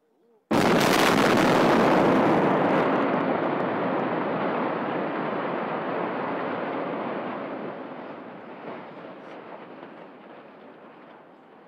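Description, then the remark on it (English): The implosion of Weirton Steel's basic oxygen plant (BOP) in Weirton, West Virginia: a sudden sharp blast bursts into a loud, broad, rumbling roar of collapse that holds steady, then slowly fades over about ten seconds. “An implosion crew far down below had already sounded the one-minute warning with an air horn.”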